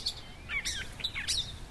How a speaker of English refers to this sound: And birds chirping.